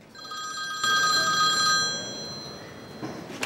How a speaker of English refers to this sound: Michael's mobile goes off with a call from Elliot.